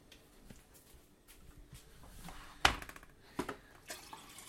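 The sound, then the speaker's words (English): Rain during the first week of August, recorded on a Zoom H2N, falling in a soft, steady hiss, punctuated by a few louder, sharp drips and splashes around the middle and end. Quiet overall, with no voices. “That it always rains the first week of August.”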